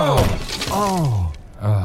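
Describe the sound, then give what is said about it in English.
A loud crash and splintering smash as a chair is hurled and broken, mixed with strained vocal grunts and groans, ending in a final heavy clatter. “Let me throw this chair.”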